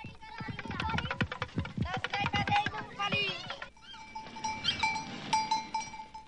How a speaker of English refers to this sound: Just outside the station, some boys are playing with a toy that sounds like a drum rattle.